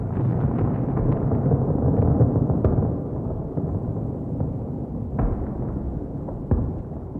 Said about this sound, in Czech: Takže tohle už byla opravdu druhá lavina. Za takovou malou chvilku. Hrome, tady ty laviny padají nějak často.